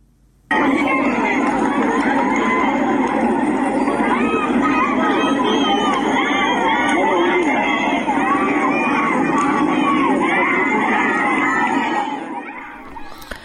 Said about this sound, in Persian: بر اساس تصاویر منتشر شده در شبکه‌های اجتماعی، گروهی از شرکت کنندگان در مراسم 40 حامد مولایی در شهر دشتی هرمزگان شامگاه دوشنبه با حضور در خیابان شعارهای ضد حکومتی سر دادند.